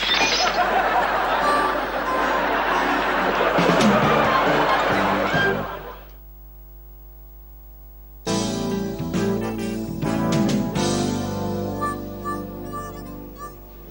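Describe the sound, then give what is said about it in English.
Glass cracks and shatters loudly, with sharp clinking shards scattering, then after a brief hush a second burst of tinkling breakage rings out over murmuring crowd noise. “You were the one who cut the glass. No, not the window.”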